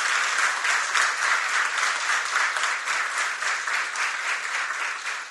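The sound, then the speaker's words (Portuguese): A crowd applauds steadily for about five seconds for the women council members being honored, a dense, even wash of many hands clapping at once, with no voices over it. “eu gostaria de pedir uma salva de palmas para as conselheiras.”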